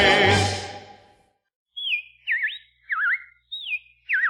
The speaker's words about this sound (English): Well, the robins are back. That's a sure sign of spring.